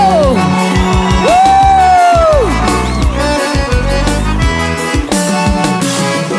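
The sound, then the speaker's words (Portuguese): A loud crowd shrieks and whoops for several seconds, high excited cries rising and falling together over a dense wash of noise and sustained tones. “Cadê o gritinho?”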